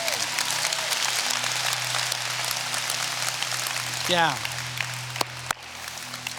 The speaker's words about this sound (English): Let's clap together for God. Yeah.